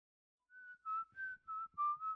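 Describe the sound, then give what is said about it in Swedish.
A man, a landlord, whistles a short tune outside a window while watering his flowers, six clear, steady notes in a gently rising and falling melody, alone with no talking. “När han hörde sin hyresvärd vissla utanför fönstret medan han vattnade sina älskade omhuldade blommor”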